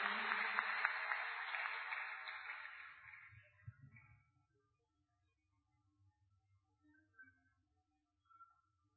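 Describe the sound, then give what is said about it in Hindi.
Steady audience applause honouring Vasundhara Raje at a Brahma Kumaris event, a dense wash of many hands clapping that is loud at first, then fades out over about four seconds, leaving near silence with a few faint stray sounds. “आदरणीय माननीय श्रीमती वसुंधरा राजे जी, हम सभी एक बार तालियां बजाकर आपका सम्मान करते हैं।”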